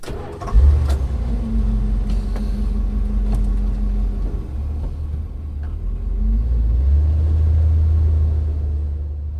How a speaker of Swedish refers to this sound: jag kände mig nöjd när jag slutligen satte mig i bilen och åkte tillbaka till huset efter en lång dag.